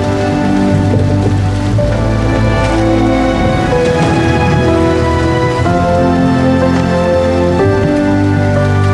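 rain falling

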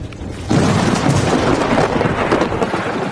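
thunder

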